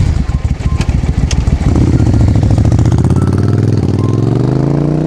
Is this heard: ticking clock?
no